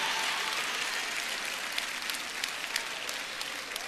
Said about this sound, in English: Okay? Okay? Oh, not so much applause anymore. We ain't applauding now.